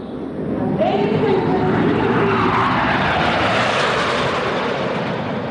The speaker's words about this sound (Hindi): वायुसेना के 27 अत्याधुनिक विमानों ने भी हैरतअंगेज कारनामों का प्रदर्शन किया, जो समारोह का मुख्य आकर्षण था।